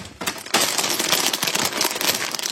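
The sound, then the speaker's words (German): A crinkly bag of chili chips, sent in a parcel, rustles loudly and continuously, with dense crackling starting after a brief quieter moment; no one speaks. “Man hat uns eine Tüte Chips geschickt.”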